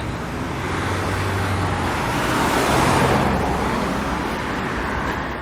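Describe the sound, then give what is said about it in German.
Steady road traffic with cars passing, a broad whooshing rumble that swells to a peak midway as a vehicle goes by, then eases slightly, with no voices. “Mal kurz über die Straße hier rübergehen, wenn es dann der Verkehr zulässt.”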